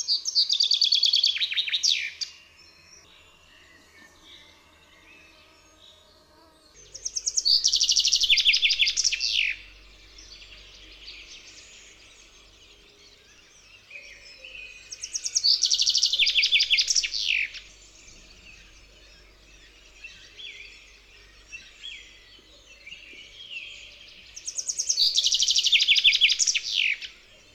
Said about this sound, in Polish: Śpiew zięby to ognista kaskada dźwięków z raptownym zakończeniem, często przybierającym formę charakterystycznego zawijasa.